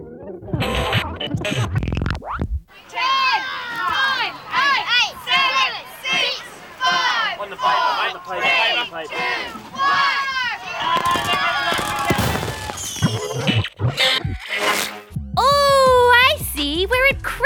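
A crowd of children shouting and screaming excitedly, loud, with a few sharp popping bursts of fireworks breaking through near the end, as kids set off fireworks while friends and families gather to light bonfires.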